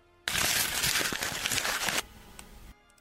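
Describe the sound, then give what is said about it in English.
Loud, continuous crumpling of paper, a dense crackling roar lasting about two seconds, imitating a rocket launch, then dropping to a softer rustle before stopping. “It's a rocket launch, and the rocket launch is made with crumpling paper, which seems so anticlimactic.”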